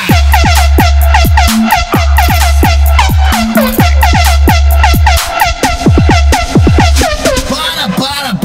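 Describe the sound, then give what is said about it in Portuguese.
A loud Volvo truck air horn blares a rapid run of bright, sliding tones with deep booming low pulses underneath, sounding almost continuously for about eight seconds without pause. “Agora, deixa com o Volvo cabuloso. Botando pressão no planeta.”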